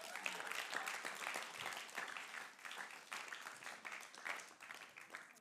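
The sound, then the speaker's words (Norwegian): An audience applauds steadily, many hands clapping in a dense, continuous patter that holds at an even, fairly loud level throughout, with no talking over it. “En applaus for Alex.”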